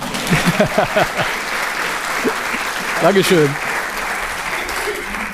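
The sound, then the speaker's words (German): Steady applause from an audience welcoming a guest speaker fills the space with dense, continuous clapping, while a voice speaks briefly over it near the start and again around the middle. “Ich denke, du hast dir schon jetzt einen Applaus verdient.”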